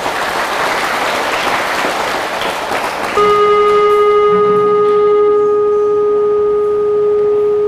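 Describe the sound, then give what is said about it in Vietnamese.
Loud applause from a crowd for a few seconds, abruptly giving way to a steady, unwavering horn-like tone that holds one pitch until the end. “Các con nếu thấy rằng đó, hối hận tiêu cực là một điều xấu, cần phải là nói không với nó, thì các con hãy cho một tràng vỗ tay thật lớn để cam kết với ông.”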